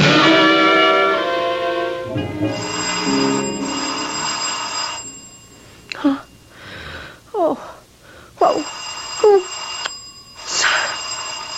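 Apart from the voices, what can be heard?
doorbell ringing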